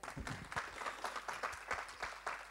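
An audience applauds, dense overlapping claps forming a steady, bright patter with small surges, moderately loud and unaccompanied by speech.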